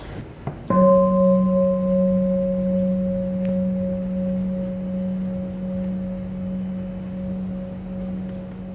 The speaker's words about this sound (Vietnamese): Bây giờ chúng ta nghe một tiếng chuông, nhắm mắt lại thả lỏng cho khỏe.